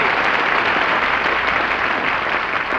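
Sustained studio audience applause welcoming Mary back, a dense, even wash of many hands clapping at steady loudness throughout, with no voices rising above it.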